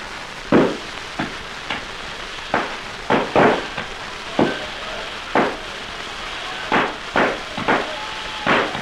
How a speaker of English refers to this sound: Look at that. There's fireworks for you. Yeah, it's a dandy display